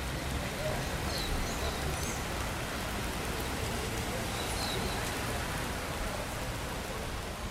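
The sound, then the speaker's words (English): Heavy rain pours down steadily on Avenida Paulista, the city's most famous avenue, in a dense, continuous hiss, with occasional faint chirps high above the wash of falling water. “Standing here, with the rain pouring down, it's hard to believe that this city, in the world's most water-rich country, is threatened by drought.”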